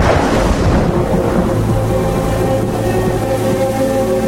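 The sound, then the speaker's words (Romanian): A deep, sustained rumble of thunder on a sultry summer day before rain rolls on for several seconds, loud and heavy in the low end, with a steady hiss like approaching rain underneath. No one speaks. “Se tune ca ploaia, auzi?”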